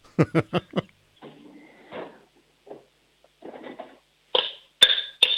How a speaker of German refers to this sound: Lauf mal in die Küche, hol dir einen Kochtopf und einen Löffel und dann schlägst du mal mit dem Löffel auf den Topf drauf.